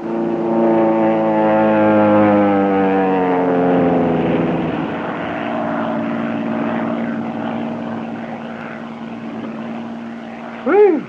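airplane

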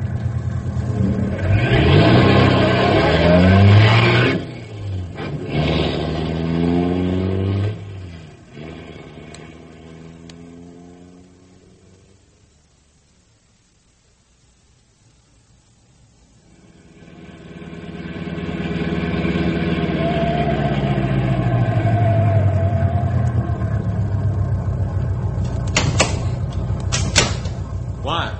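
car engine revving

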